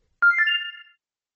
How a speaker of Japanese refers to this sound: 次第に慣れるにつれ、電話の音にも驚かないようになるのです。わざと自宅に電話をして、電話の音に慣れさせる。